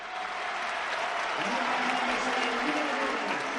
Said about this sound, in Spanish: Ovación para Morata.